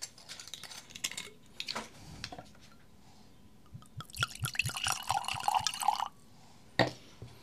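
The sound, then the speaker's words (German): White wine, a 2020 Solaris from a winery in Großräschen near Senftenberg, glugs and splashes into a glass for about two seconds, clear. Before the pour come a few light glassy clinks and bottle handling, and it ends with one more sharp clink. “Ja, dann gießen wir den mal ein.”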